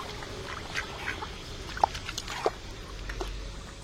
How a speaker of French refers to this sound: Les canards sont contents, ils nagent dans la mare.